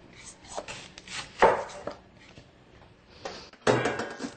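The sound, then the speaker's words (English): A knife dices peeled butternut squash, pre-baked for about 15 minutes, on a cutting board in a few irregular strokes, with sharp wooden thuds, the loudest coming near the end. No one speaks. “And then we're going to dice it up.”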